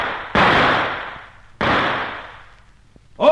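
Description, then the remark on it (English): Two sharp, loud gunshots about a second apart, each cracking out and fading in a long, rumbling tail, followed by a brief high-pitched tonal sound at the very end. “These fellas are gun happy.”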